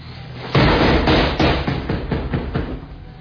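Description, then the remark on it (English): Heavy, repeated pounding on a door by someone inside a vending room trying to get the door opened: a loud first blow followed by a rough series of dull thuds at an uneven rhythm, booming and low, with no voices. “Is that you pounding?”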